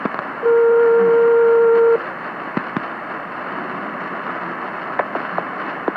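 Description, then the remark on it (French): A single long, steady ringback tone, the first ring of a radio phone-in call to a listener, sounds over a phone line for about a second and a half, then gives way to quiet line hiss with a few faint clicks. “Première sonnerie.”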